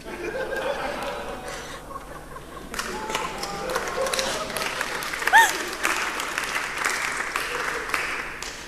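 Light, scattered audience applause with a few chuckles mixed in, steady and modest in volume for several seconds, with a brief sharper clap or squeak partway through.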